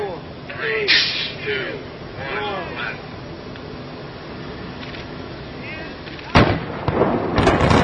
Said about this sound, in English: the moment of implosion, a MARTA bus pulled up on the street and pretty much entirely blocked their view of the Georgia Dome implosion.